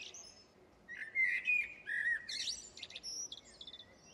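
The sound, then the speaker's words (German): Birdsong fills the air: bright chirps, trills and sweeping whistles from several birds over a soft steady outdoor hum, with no voices. “sagt die Schwester Lilian Juchli mit Vogelgesang im Hintergrund”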